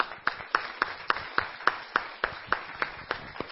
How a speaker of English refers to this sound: You know, can we have applause for our young people?